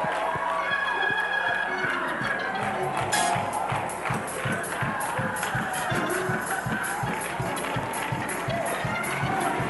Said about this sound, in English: Still clapping.